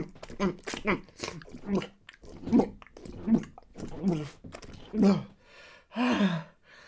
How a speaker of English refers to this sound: Panting.